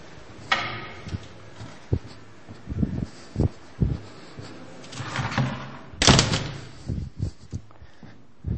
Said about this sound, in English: I think I closed the door.